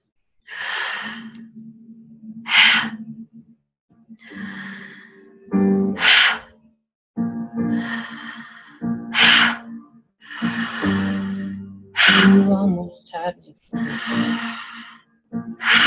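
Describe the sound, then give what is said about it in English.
A series of deep, audible breaths, airy inhales followed by long, relaxed exhales, repeating steadily over a soft, low sustained tone. “Inviting the inhale in. And completely relaxing it out.”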